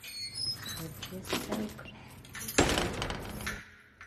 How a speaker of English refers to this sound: The blonde nurse opens the gate to the advanced security unit. She locks the gate behind her.